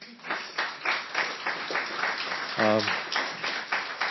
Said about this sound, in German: Ich bin so dankbar für das Team, das ich heute habe. Ein Applaus für das Team.